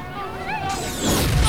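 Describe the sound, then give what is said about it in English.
A thin, warbling electronic whine gives way to a sudden broad roar of noise that swells into a loud, rumbling explosion blast and keeps crackling to the end. Explosions rack abandoned village homes at night, knocking people to the ground. “A blast knocks a handful of people to the ground. Explosions rack the abandoned homes behind them, momentarily lighting up the night.”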